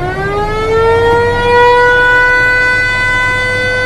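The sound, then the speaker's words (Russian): A river passenger boat's horn gives one long, loud blast as the boat casts off, a steady rich tone that swells slightly in pitch at the start and holds for several seconds with no voices. “Даю гудок.”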